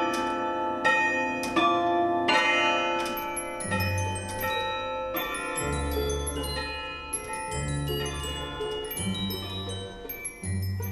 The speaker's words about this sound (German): Das moderne Glockenspiel mit der Zauberflöte